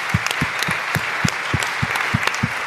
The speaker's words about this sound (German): Also es verdient erstmal einen fetten Applaus.